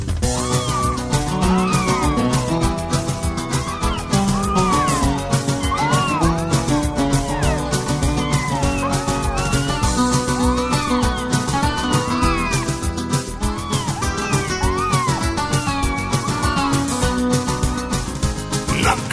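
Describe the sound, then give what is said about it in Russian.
Cats meow over and over under a window at night, their overlapping cries sliding up and down in pitch, set against a loud, dense, continuous backing that never lets up across the whole stretch. “Опять под окошками песни запели кошки.”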